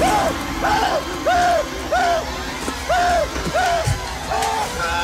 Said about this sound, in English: All right, let's get to clips. We got a few here. And they begin with this one. Screaming dude, here you go.